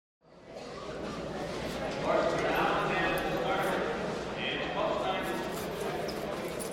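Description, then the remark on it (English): Horse hooves clip-clop steadily in the Eastern Standard radio play Three's a Charm, against a dense, busy background of murmuring voices, with the bustle fading in quickly and holding at a fairly loud, even level throughout. “Horse looks good, don't he, Billy?”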